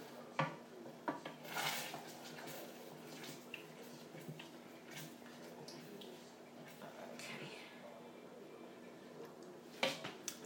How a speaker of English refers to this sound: The beans need a bit more of a stir. You can hear them bubbling. Hold on. That's my beans. I'm going to stir them. They're done now anyway.